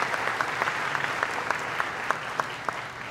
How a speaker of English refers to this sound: Mayor Jim Rector is here. Give the mayor a big round of applause. Good to see you again, Mayor.